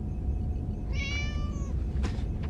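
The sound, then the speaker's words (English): A cat named Spot gives one drawn-out meow, a clear harmonic cry that slowly falls in pitch, over a steady low rumble of background noise. Two soft, brief rustles follow. “He prefers feline supplement number 25.”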